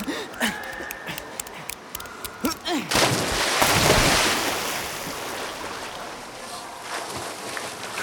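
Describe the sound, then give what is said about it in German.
Brief voices and scattered knocks, then a big splash as someone plunges into pool water, followed by several seconds of loud churning, sloshing water that gradually settles. “Dann schnell ins Wasser. Wer zuerst drin ist?”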